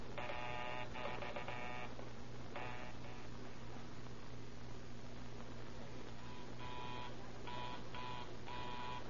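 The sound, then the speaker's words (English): A telephone rings in repeated bursts during a check of the phones at several stations, a bright metallic trill sounding in several spaced-out rings over a steady low electrical hum, with no voices. “Hang up and see if you can hear the others as I ring them.”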